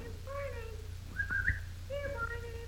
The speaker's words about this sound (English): He whistled and shouted and called them by name.